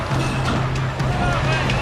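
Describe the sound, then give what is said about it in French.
Heavy trucks rumble past on a busy motorway, a loud, continuous roar of engines and road noise with a steady low drone throughout. “cet autre groupe de migrants est plus décidé à caillasser les camions et les policiers qu'à monter dans les remorques.”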